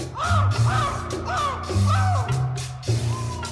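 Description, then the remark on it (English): A human voice on a 1959 Polynesian-style record imitates a tropical island bird call, squawking and warbling in a run of strained, caw-like cries with no other talk. “Listening to it again, I think that the sounds of the various fauna of the islands were recorded by human beings and not actual birds.”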